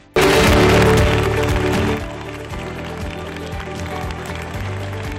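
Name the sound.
applause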